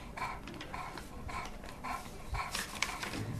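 A library dog that children read to pants steadily, quick breathy huffs repeating in an even rhythm of about two per second, with no voices.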